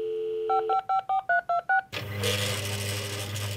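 A fax machine dials out, as when a doctor faxes a prescription to a pharmacy: a steady dial tone, six quick evenly spaced touch-tone beeps, then a loud, hissy electronic screech of the connecting line with a low hum beneath.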